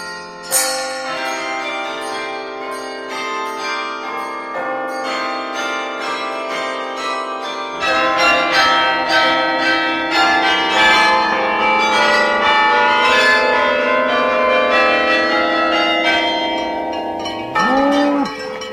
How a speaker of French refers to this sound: Bon, et pourtant, quelle musique que celle des cloches ou des instruments qui imitent le son de la cloche, sa résonance, son aura.